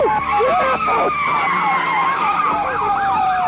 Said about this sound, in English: The suspect backs up and hits another car.